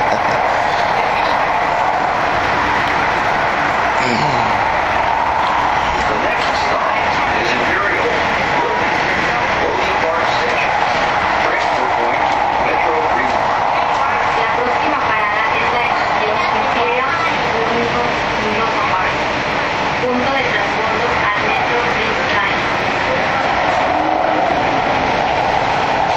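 A loud, steady roar of a subway train running between stations, just past 103rd Street Station, fills the whole stretch: a dense rumble and rattle with wheel and track noise that never lets up, heard from inside the car.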